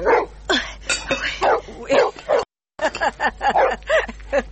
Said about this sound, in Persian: این سگ پالوی خیمه ما چرا غوغو میکنم؟ این سگ هم به نظر ما به خدا بسیار خطرناک معلوم میشه.